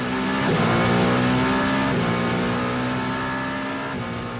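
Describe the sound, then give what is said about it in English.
The Toyota number 7 race car's engine screams loudly and continuously at Le Mans, its pitch climbing in repeated surges as it shifts through gears, with no voices. “That's the Toyota number 7 car.”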